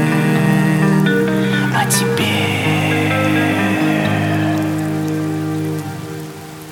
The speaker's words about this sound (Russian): Это просто дождь. Он снова плачет за моим окном.